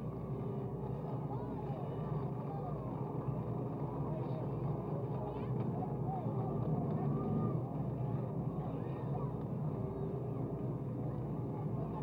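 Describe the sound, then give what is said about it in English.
A distant crowd of thousands cheers and roars outside and in front of the Vatican Pavilion as the Pope's car is sighted, a steady, dense wash of many voices that holds for the whole stretch, with a low rumble underneath. “And now you probably hear the response in the background as the Pope's car is sighted by those thousands of people just outside and in front of the pavilion.”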